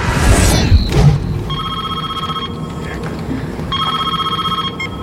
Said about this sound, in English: And as soon as it's over, your phone rings. Someone knows you've watched it.